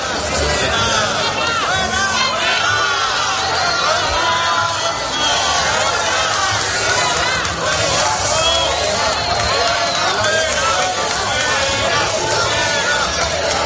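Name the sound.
crowd booing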